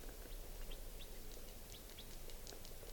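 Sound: bird alarm calls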